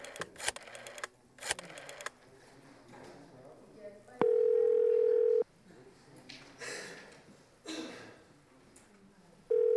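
A few sharp clicks as a telephone handset is picked up to make a call, then a loud, steady dial tone for about a second. A brief dialing beep cuts in at the very end, over faint background murmur; the call reaches Coca-Cola International.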